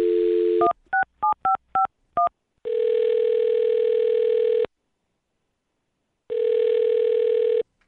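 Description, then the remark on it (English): A phone line's dial tone cuts off into a quick run of touch-tone keypad beeps as a phone number is dialed, followed by two long, steady ringing tones separated by a pause. Clear, with no voices. “I'm going to dial her phone number and let you do your thing, okay?”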